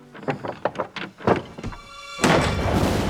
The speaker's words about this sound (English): The door handle rattles.